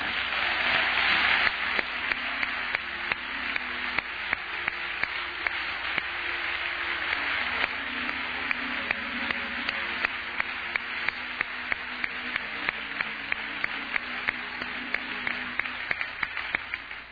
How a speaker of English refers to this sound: You may take that applause and relay it on to the one who properly deserves it, Jesus himself.